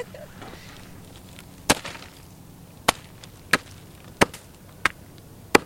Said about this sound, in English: If I hit this roasted chicken with a sledgehammer, it will sound like bones crunching and breaking.